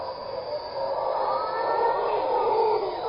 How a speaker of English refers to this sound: So here was the howler monkeys, and this, I assume, you did closer to where your ending point was